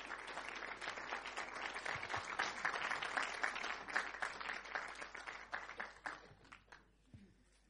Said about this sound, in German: Ein Applaus für Bischof Betzing.